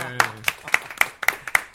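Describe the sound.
Brief applause of about seven sharp, evenly spaced claps in a steady rhythm, close and fairly loud, with a voice briefly audible at the start.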